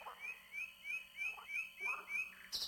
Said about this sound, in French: Nuit provençale, le chant interminable des rossignols tout au long des nuits de mai. Le rossignol.